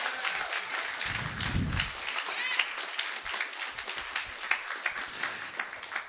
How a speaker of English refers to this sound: Come on, clap your hands unto God tonight. Come on, don't patty cake.